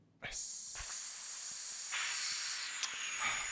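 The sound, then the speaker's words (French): A voice makes a long, steady snake-like hiss for the letter S, a continuous sharp 'sss' that holds for several seconds, fairly loud, with slight swells in intensity. “Le S, c'est le serpent, c'est la suite, c'est la satisfaction.”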